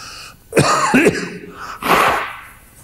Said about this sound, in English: I wish I knew a way to blow my nose without getting it recorded, but it doesn't.